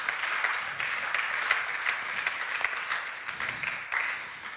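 Steady applause from an audience thanking two people, a dense wash of many hands clapping at once with scattered sharper claps standing out, sustained at an even, moderate level throughout.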